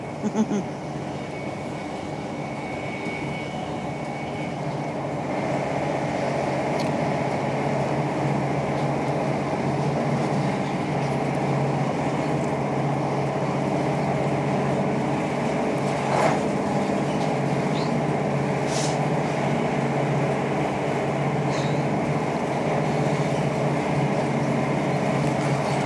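A steady, continuous rumble of an old, rickety slam-door train rolling along the rails, with a low droning hum and occasional faint clicks and squeaks from the carriage, heard from inside.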